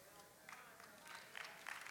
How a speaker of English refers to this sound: Oh, don't golf clap me. Come on, somebody.